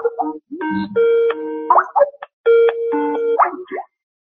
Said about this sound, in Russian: Это Рустем звонит.